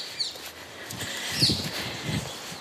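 Two brief, high bird chirps ring out in a small park in London over soft, steady walking footsteps and light rustling, with no one speaking.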